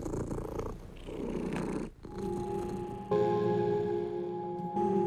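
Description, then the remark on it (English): A cat purrs while being combed on a balcony, in a steady, rumbling rhythm, pausing briefly midway before the purring resumes, now joined by a soft, sustained hum underneath. “And the cat would just, you know, be purring and relaxing, and I would be just sort of in a hypnotic state, just kind of brushing and brushing.”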